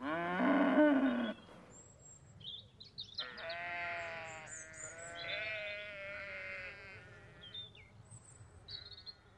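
A loud, low cow moo opens the scene, followed by several wavering sheep bleats overlapping one another, with faint high chirps scattered in the background of a farmyard.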